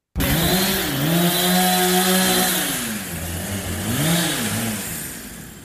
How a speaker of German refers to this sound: Wir stehen jetzt an der Baustelle vom Quartiersplatz und jetzt wird es wirklich laut.